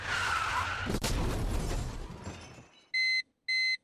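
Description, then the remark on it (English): A car skids, slams into something with a sharp crash and rolls over, followed by a couple of seconds of loud grinding, tumbling noise that fades out, then two clear electronic beeps. “I think the car turned over twice, although it's hard to tell, even watching it again.”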